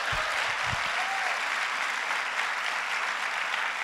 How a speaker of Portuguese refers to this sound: Vamos aplaudir a Deus pela vida deles?